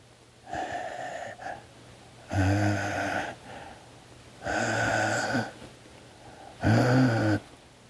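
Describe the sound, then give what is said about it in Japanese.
Heavy, wheezy breathing, about four long raspy breaths drawn at a slow, steady pace, heard faintly through a door from something standing just outside the room after footsteps stopped there. The sound is fairly quiet and somewhat muffled, with no talking. “息遣いが聞こえてきた。”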